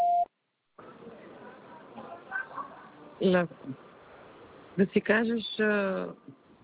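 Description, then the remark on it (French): A short, steady mid-pitched beep from an automated taxi-booking phone line that prompts the caller to say a pickup address and town, followed by a pause and then a person speaking over crackly, band-limited telephone noise. “Prononcez distinctement, après le bip sonore, votre adresse de prise en charge en précisant la ville.”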